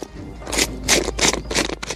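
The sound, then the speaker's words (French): A pepper mill grinds peppercorns in about five quick, gritty crunching bursts, each a short, crackly scrape, repeated in a rough rhythm with no talking. “Et moi, j'espère que c'est à mon moulin à poivre que vous allez penser. Regardez, du poivre en grain, un petit tour et hop, l'arôme du poivre fraîchement moulu.”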